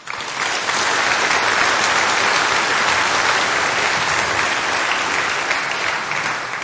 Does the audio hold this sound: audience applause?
yes